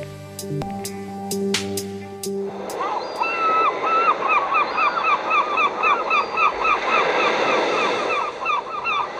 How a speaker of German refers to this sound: Ist das nicht herrlich, dieses Meeresrauschen? Und nein, ich bin nicht in der schönsten Stadt Deutschlands und der Welt in Essen, sondern ich grüße euch heute von der wunderbaren Nordseeinsel Borkum